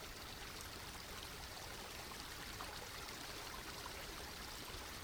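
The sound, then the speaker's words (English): A steady, continuous rush of flowing stream water, babbling and gurgling evenly throughout with no pauses, moderately loud, with no voices present. “Move forward now to lie on these stones, submerging your body in the pure, clear, sacred waters, your feet pointing downstream so that the current can cleanse you.”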